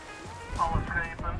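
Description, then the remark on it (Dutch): Ambient sounds aboard a boat on water: a steady wash of water noise and low rumble, with faint, muffled voice-like tones drifting through in the background. “Tot zover weer de live geluiden vanaf mijn boot.”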